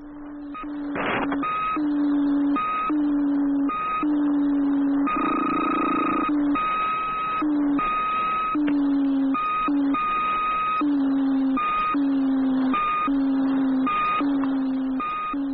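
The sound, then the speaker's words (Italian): A coded radio signal from the Soviet satellite Cosmos 79, sent one day in August 1965: a continuous stream of electronic beeps in short and longer pulses at a steady pitch, clear and fairly loud over a faint background hiss, with no voices. “Ascoltiamo l'enigmatico segnale di quel giorno d'agosto.”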